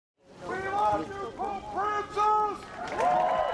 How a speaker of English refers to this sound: A lone male voice shouts across the White House South Lawn at the end of the ceremony here in Washington on Wednesday, drawing laughter and applause from the crowd before the military brass band strikes up again.